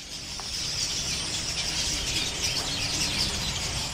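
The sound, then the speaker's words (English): A dense, steady chorus of birds chirping loudly in a mango tree overhead, above a woman sitting beneath it, fills the air for the whole stretch, bright and busy, with no one talking. “Birds chim loudly above her, but she is not distracted.”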